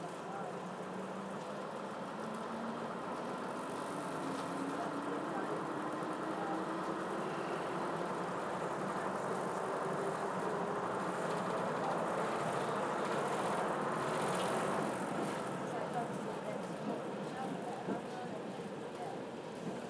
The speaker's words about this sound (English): We're getting a little announcement, and then I think we're about ready to go. Not yet. Hey, you'll hear the engine note change, and we are off.